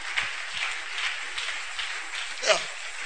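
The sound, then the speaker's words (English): A church audience claps hands during a sermon in a dense, steady wash of applause lasting a few seconds, with one brief louder swell toward the end. “Or you can clap those hands.”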